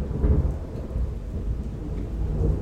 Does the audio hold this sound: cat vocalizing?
no